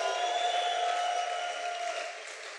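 An audience applauds and cheers for the King of Glory in a dense, steady roar that holds for a couple of seconds, with sustained musical tones humming underneath before the noise eases slightly at the end.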